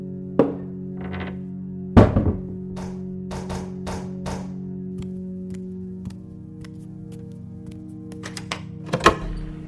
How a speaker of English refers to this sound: I always feel like a spy knocking Morse code. Oh, it's too short for Morse code, though.